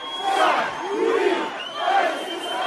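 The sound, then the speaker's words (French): A dense crowd of supporters of new president Kais Saied, many young people and families with children, roars and cheers continuously on Avenue Bourguiba in central Tunis, Tunisia, in the evening, celebrating his election victory, with overlapping shouts and a few rising chant-like calls swelling above the steady wash of many voices. “À peine les premières estimations connues, la foule des partisans du nouveau président a envahi l'avenue Bourguiba en plein centre de Tunis.”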